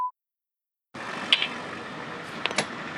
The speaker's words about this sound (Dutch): Oh, de deur gaat open.